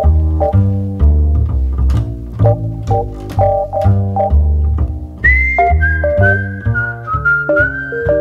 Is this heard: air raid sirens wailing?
no